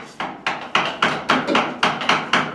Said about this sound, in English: The sound we're hearing was recorded when I was last in Afghanistan in 2006. A young man chipped away on a large piece of walnut with a chisel and hammer.